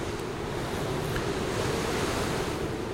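Steady roar of ocean surf and gusting wind, loud and continuous throughout with no pauses, like standing on a stormy shoreline. No voices are present.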